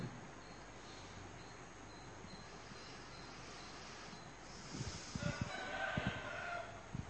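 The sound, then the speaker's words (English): A rooster crows once near the end, a drawn-out call over steady outdoor background noise with a few low bumps. “Our friend the rooster.”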